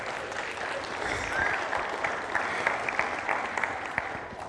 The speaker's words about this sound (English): If you're here this morning, could you give God a round of applause?